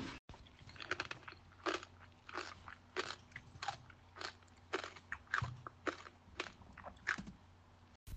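Steady crunchy chewing and biting as children eat caramel from a house made of caramel, with sharp crackly bursts repeating every half second or so over a low steady hum. No one speaks.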